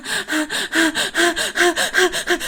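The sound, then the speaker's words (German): A person imitates rapid, gasping breaths, about nine or ten short voiced inhale-exhale pulses in a steady rhythm, fairly loud, with no speech. “Ich kann ja mal versuchen, dieses Atmen vorzumachen.”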